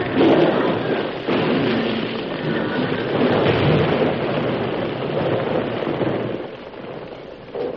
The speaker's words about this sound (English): They ran right into the explosion.